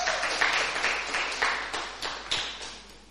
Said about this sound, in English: Yes, give a big hand clap as she comes.